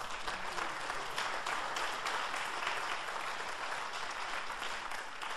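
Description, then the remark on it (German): Steady, dense applause from a concert audience for a guest trumpet player's performance, a continuous wash of many hands clapping at an even level for several seconds with no voices on top. “Dann bitte ich Sie um einen besonders herzlichen Applaus.”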